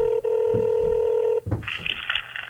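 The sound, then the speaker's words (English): Telephone keypad tones sound loud as a council candidate dials voters for phone banking during the pandemic: a long steady beep for over a second, a short break, then a higher, brighter tone with a faint low rumble underneath. “shifted mostly to phone banking, a safe way to connect and work alone.”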